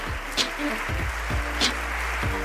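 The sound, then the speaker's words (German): Steady audience applause for Sonja Greinacher after her talk, a dense crackling wash of clapping heard throughout, with voices speaking faintly underneath and a couple of sharper bursts standing out. “Ich danke euch fürs Zuhören und für den Applaus, fürs Interesse.”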